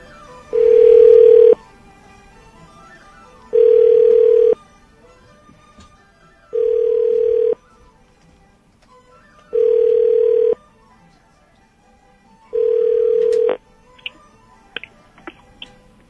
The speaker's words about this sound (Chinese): 但是我们现在来，希望这位朋友会接电话。